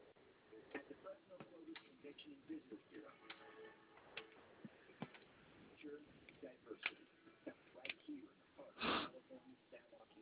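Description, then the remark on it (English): A clock ticks steadily with sharp clicks at a quick, even pace, accompanied by soft background murmur and a brief breathy sniff near the end. “It's just clocks everywhere.”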